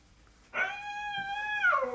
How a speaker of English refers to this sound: After all these years, are you still trying to figure out what it means? In this article, we explain all of the different meanings of a cat's meow.